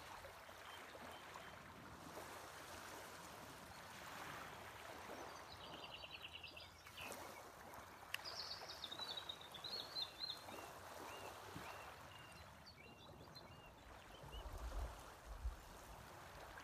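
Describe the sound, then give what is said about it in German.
Soft, steady lapping of lake water, a gentle continuous splashing with faint bird chirps scattered above it and no voices. “Höre das Plätschern des Sees.”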